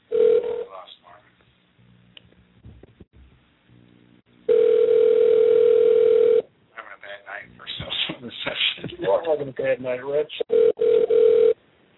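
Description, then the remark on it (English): A steady, loud telephone dial tone drones on its own for about two seconds after a phone call drops, then returns briefly after a stretch of talking; faint tones and a short burst sound at the start. “Hey, I'm sorry. Phone dropped.”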